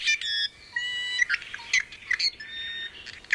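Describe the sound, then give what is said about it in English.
An i'iwi, a Hawaiian native forest bird, gives a run of squeaky, creaking calls mixed with thin whistled notes, high-pitched and irregular, some buzzy and harmonic-rich, with no voices present. “Sam's work tries to bridge traditional Hawaiian knowledge with conservation to ensure birds like the i'iwi stay with us.”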